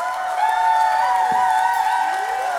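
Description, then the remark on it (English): A crowd cheers and applauds steadily for a band, with sustained whoops and high, sliding shouts riding over a dense wash of clapping; the noise stays loud and even throughout without any speech. “Please give a big round of applause to one of the best bands in the land right here.”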